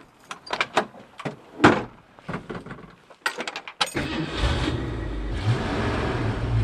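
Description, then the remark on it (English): Several sharp clicks and thumps, like a car door and keys, followed by an old Mustang car engine cranking to life and settling into a loud, steady, rumbling idle as it is warmed up, continuing to the end. “One of the things about old schools is you have to really thoroughly warm them up.”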